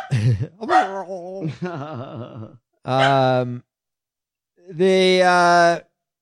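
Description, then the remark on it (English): A dog makes a string of drawn-out, wavering howls and whining yowls, loud, with short gaps between bursts that almost sound like talking. “What do you mean she says it like in dog language?”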